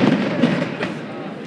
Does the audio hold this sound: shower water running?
no